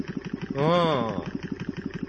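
A head massage device's motor whirs with a steady, rapid pulsing rhythm as it kneads the head on a faster speed setting, a buzzing vibration that briefly swells in the middle with a rising and falling harmonic tone.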